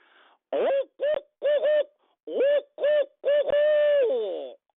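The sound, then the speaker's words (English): A person imitates a barred owl, giving a loud series of rhythmic hooting calls with rising and falling inflections, ending in a longer drawn-out hoot. “So here's my barred owl call.”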